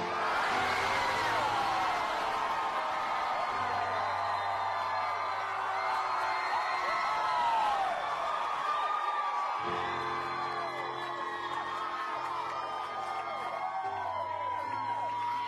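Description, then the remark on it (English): A large concert crowd cheers and whoops loudly and continuously in answer to the performer asking if they are happy to be alive tonight, many overlapping voices yelling and shouting at once in a sustained, dense roar, with a low steady hum underneath. “I want you to remember that sound that you guys made together.”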